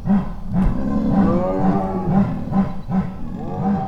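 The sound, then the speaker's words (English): A chorus of big cats roaring and chuffing together at night, recorded by microphones set up outside, low rhythmic grunting pulses overlapping with drawn-out, wavering moans, steady and loud throughout with no talking. “It's a kind of a chuffing chorus that they do, and they won't do it around people.”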